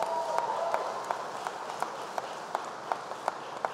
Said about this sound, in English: Two great friends of yours, Representatives Ander Crenshaw and Corrine Brown, who are here. Give them a big round of applause right here.